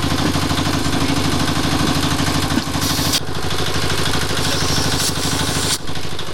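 Tanks rumble through the city of Kabul, Afghanistan, at the start of the military coup against Daoud Khan's government, with a loud, steady, deep engine drone and throbbing harmonics, broken by a few short hissing bursts around the middle and end. No voices are heard.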